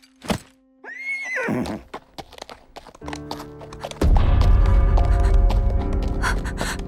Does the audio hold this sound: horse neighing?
yes